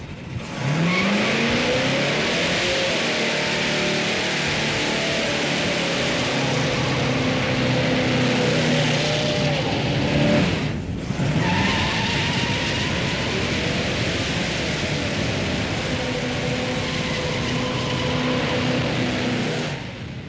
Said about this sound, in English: The 331 gears, well, it helps in the burnout. This thing does a great burnout. Once you get them spinning again, it just wants to keep spinning and spinning and spinning.